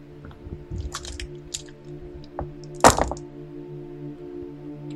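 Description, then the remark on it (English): Dice are rolled for a deception roll, an opposed roll in a role-playing game: a few light, scattered clicks, then one sharp, louder clack near the end, all over a steady low hum with no voices. “Shinarath will roll for deception here.”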